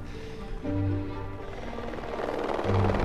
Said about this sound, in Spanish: cuando en ese vuelo de helicóptero